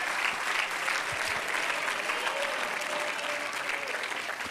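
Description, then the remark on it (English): A church audience claps together to bless a member, in sustained, dense applause, a steady wash of many hands striking at once without pause for several seconds. “Let's clap our hands into him and bless him.”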